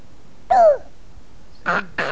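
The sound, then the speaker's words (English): A young child's voice imitates a rooster crowing, a short gliding, sliding call followed by two quick, rougher vocal bursts, fairly loud. “Is that this rooster?”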